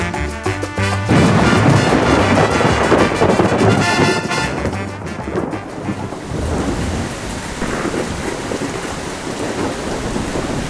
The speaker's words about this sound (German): Endlich das Gewitter. Wie ich alleine unter den Arkaden sitze, in einem gelben Schaukelstuhl. Ringsum rauscht es, ein plötzlicher Platzregen mit Wind.